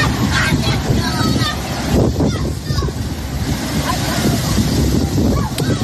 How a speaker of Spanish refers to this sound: Así suena el agua arramplando con todo a su paso.